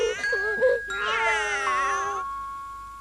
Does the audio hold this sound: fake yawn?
no